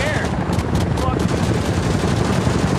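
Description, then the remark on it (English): Rapid gunshots crackle in short bursts over a loud, continuous rumble of battle noise, with muffled voices mixed into the din; a small bullet lands at a reporter's feet. “A small bullet lands at Scribe's feet.”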